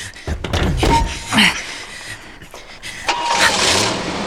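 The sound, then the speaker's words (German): A car door thunks shut, then an engine cranks and starts, revving as a man drives the car off and away, with no voices. “Er fährt weg. Könnt ihr das Auto sehen?”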